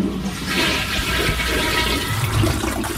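toilet flushing

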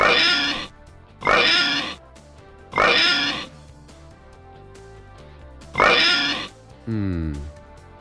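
pig oinking sound effect

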